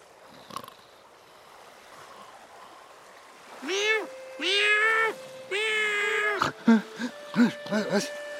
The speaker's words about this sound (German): Oh, Katze hat mich geweckt. Miau!